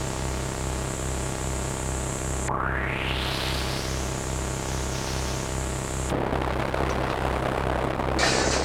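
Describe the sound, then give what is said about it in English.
A steady, droning engine hum rises into a sweeping whine, then erupts into a loud, rough roar of rocket-like thrust as the Watcher's spaceship, retro rockets on full thrust, crashes down, ploughs into the ground and skids to a stop at the edge of a battlefield. “Then, in a veritable galaxy of sparks, and with retro rockets on full thrust, the Watcher's spaceship ploughed into the ground and skidded to a stop at the edge of the battlefield.”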